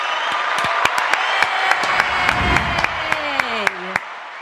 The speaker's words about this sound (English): Hey guys, I love the intro with the clapping and stuff. It's great.